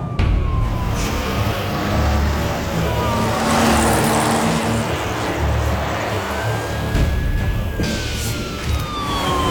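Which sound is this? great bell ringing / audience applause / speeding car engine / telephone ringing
speeding car engine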